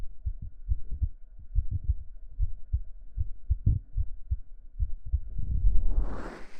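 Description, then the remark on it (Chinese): A fast, muffled heartbeat thumps steadily, heard against a person's chest by someone lying in their lap, with soft low double beats; a brief rustling swell of fabric rises at the end. “我的心跳很快。”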